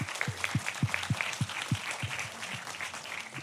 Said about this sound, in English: Give Katie a massive round of applause.